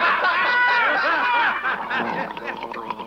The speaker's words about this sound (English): I was drinking a glass of noodle soup when you told that last joke. I wasn't able to laugh in time, so I did the next best thing. I gargled.